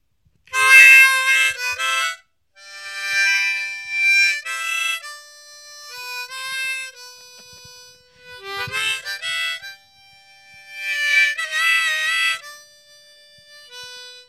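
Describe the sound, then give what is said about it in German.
A harmonica in the key of G plays a short, lively tune in bursts of bright, reedy chords and bending notes, loud and unaccompanied for about fourteen seconds with brief pauses between phrases. “Pass auf, ich spiele dir was in G. In G? In G ist immer super, was auch immer das heißt. Die Mundharmonika ist in G?”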